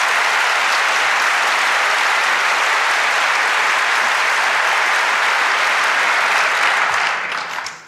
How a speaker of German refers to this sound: Let's Encrypt, die schönen Zahlen. Applaus.